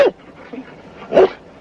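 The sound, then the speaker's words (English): A dog gives a couple of short barks, one at the start and a louder one a second later, with soft whimpering in between, without any talking. “We better catch that dog.”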